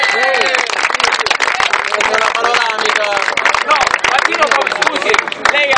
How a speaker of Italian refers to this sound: Applauso, onorevole. Grazie onorevole.